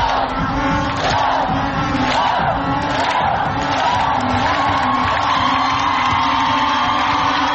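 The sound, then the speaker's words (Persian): A large crowd, including women fans, cheers and shouts at Azadi Stadium in Tehran during Iran's football match against Cambodia, in a dense, unbroken roar, loud and steady throughout, with many high-pitched voices rising above the mass of sound. “اما این روز نه به خاطر سهمگین بودن شکست حریف، که به خاطر ظاهر متفاوت ورزشگاه آزادی تهران در روز شمار تاریخ ورزش ایران ثبت شد، ظاهری که سرانجام بعد از 4 دهه زنانه شد.”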